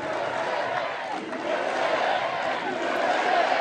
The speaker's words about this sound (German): Wie bei seinen Wahlkampfveranstaltungen brachen sie immer wieder in Sprechchöre aus.